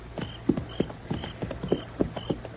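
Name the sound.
horse hooves clip-clopping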